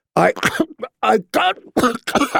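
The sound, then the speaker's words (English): A voice acts out a fit of choking coughs: a string of about six harsh, strained bursts in quick succession, fairly loud, with short gasping breaks between them. “all the wine came spewing back out when another spate of coughing doubled him over.”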